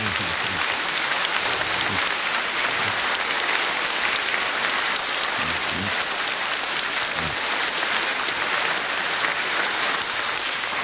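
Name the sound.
applause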